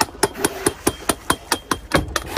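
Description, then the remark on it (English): Metal objects clanging against a boat's side to scare off whales, in a steady run of about eleven sharp, ringing strikes, evenly spaced and fairly loud, with no voices. “Like clanging metal objects on the side of the boat to scare the whales off.”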